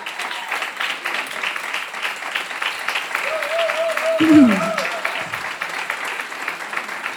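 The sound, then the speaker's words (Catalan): An audience applauds steadily during a festival proclamation speech (pregó), a dense crackle of many hands clapping that holds at an even level throughout, with a voice briefly rising over it partway through. “Jo no sé per què esteu aplaudint, perquè el següent, què serà?”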